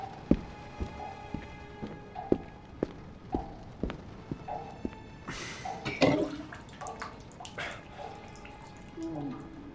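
Running tap water coming from next door, with irregular sharp drips and knocks throughout, and a louder rush of water surging for a couple of seconds midway before settling back to a low trickle; no talking.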